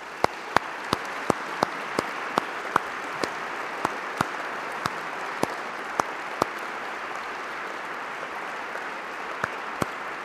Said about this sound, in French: Je demande à leur tour aux lauréats de bien vouloir se lever et de bien vouloir accepter nos applaudissements.